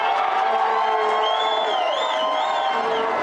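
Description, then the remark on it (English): Costa Rican soccer fans cheer and shout steadily for their team before breakfast at Casa de Fernando in a strip mall in Anaheim, a dense wall of many voices with high whoops and a rising, wavering shrill call cutting through the roar. “The Costa Ricans were here cheering for their team before breakfast.”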